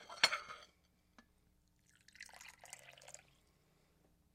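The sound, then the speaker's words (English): A short clink, then after a pause tea streams into a cup in a tea-drinking ritual for just over a second with a soft, bubbly trickle. Nobody speaks. “So I pour the cup. Don't pick it up yet. I pour mine.”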